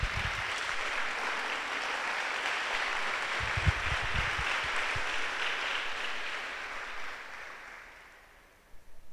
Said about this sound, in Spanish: Damos un aplauso a Dios por ese blindaje.